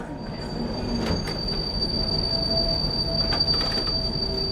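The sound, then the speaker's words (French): A metro train rumbles along steadily while its wheels squeal against the rails in a high, sustained whine, with occasional sharper metallic screeches breaking through the loud ride. “Dans le métro, Lucille prend la main de sa mère et ne la lâche pas de tout le trajet.”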